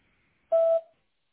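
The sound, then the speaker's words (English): A single short electronic telephone keypad tone, heard while dialing a phone number, sounds once, loud and clear for about a quarter second, then fades, with near silence before and after. “So I thought of calling using our internal phone number instead.”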